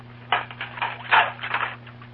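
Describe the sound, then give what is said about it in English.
Dinner dishes being washed up, with a run of irregular clinks, clatters and scrapes of crockery, moderately loud, over a steady low electrical hum and no voices. “You recognize that sound? Well, it's Mrs. Brown washing up the dinner dishes.”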